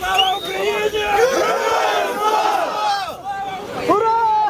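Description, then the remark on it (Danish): A crowd cheers and shouts loudly and continuously, many voices rising in excited whoops and cries, with a brief lull before another burst of cheering, as young Ukrainian prisoners of war freed from Russian captivity in a prisoner exchange arrive by bus and are welcomed with hugs. “Var stor, da ukrainere, der har været under russisk fangenskab, ankom med bus til et ukendt sted og blev modtaget med kram og jubel.”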